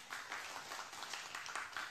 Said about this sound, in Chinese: 阿们的拍手，把荣耀给神。